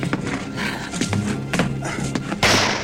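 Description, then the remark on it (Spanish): A loud shotgun blast bursts out near the end, ringing on briefly, after a few dull thuds and scuffling knocks, as a man fires at a zombie at a window that had grabbed the gun's barrel; the shot drives it back. “El nuevo disparo le hace retroceder otra vez, pero vuelve al ataque.”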